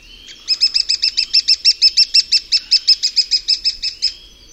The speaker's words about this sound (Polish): Głos dzięciołka jest szybszy i bardziej piskliwy. Brakuje w nim zawodzącego, jękliwego charakteru piosenki krętogłowa. Oto głos dzięciołka.